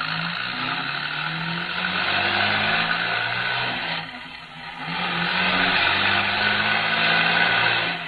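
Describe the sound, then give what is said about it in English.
A car engine roars steadily at speed, loud, with road noise throughout and a brief dip in power midway, like a gear change, before it surges again. “He's going to chase us in the car.”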